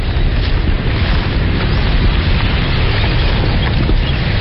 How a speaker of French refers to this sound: Là, nous sommes juste au bord de cette rivière Mikrou, un endroit totalement sauvage. Et pendant la saison des pluies, là où nous sommes, justement, la rivière gronde. Vous entendez ?